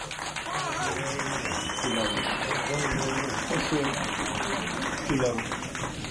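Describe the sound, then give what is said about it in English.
A crowd at a show in Las Vegas applauds a band steadily for several seconds, a dense wash of clapping with scattered shouts and voices mixed in, fairly loud and sustained throughout. “All right, let's get together and give the band, …, …, one of the famous …, a pretty big round of applause.”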